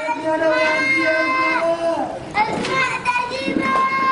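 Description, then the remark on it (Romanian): Children in the streets of Syrian cities cry out after fighting, in long, high-pitched wailing calls that rise and fall, several voices overlapping over a murmur of other people, with a short dip in the middle before the cries resume. “Acestea sunt strigătele copiilor de pe străzile orașelor siriene în urma luptelor ce se țin practic zilnic.”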